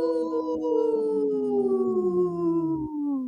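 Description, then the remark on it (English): A person on the radio show Native Roots Radio Presents imitates a wolf howl, a single sustained voice holding a wavering tone that slowly slides downward over about three seconds before cutting off. “Yesterday's was a really good howl, too. That was a good one.”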